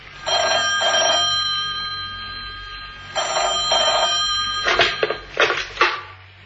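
A telephone bell rings twice in the classic double-ring pattern, clear, then a few sharp clattering knocks follow. No one speaks.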